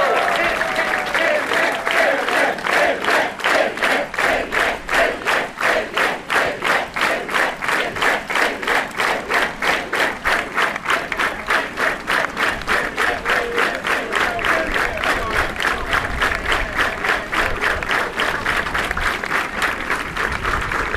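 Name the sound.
audience applause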